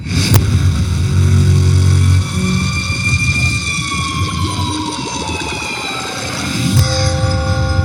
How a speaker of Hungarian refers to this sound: Várjál, mindjárt elindítjuk a challenge time-os zenét.